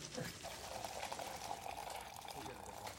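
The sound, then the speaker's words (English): Water pours steadily into the reservoir, a small water tank, of a coffee machine for about three seconds, a continuous splashing trickle with a rising fill tone, moderately loud. “You've got to fill the reservoir. The what? The little water tank thingy. Here, I gotcha.”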